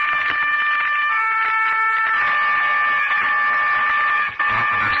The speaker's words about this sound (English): And over the scene comes the sound of a distant horn.